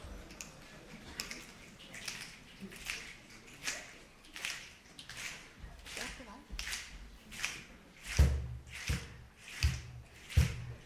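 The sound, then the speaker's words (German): A standing group snaps their fingers together to accompany a song, in a steady beat, about two snaps per second, roughly twenty in all, growing louder toward the end with soft low thumps and faint background murmur. “Wir möchten nämlich schnippen. Wir fangen mal mit dem Schnippen an, ja?”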